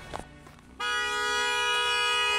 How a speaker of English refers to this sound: so you're just honking. I'm not sure what the strategy is. How are you? I came down and waved and said hi. We're gonna see how long he's just gonna remain honking. How are you doing? He's gonna break his horn.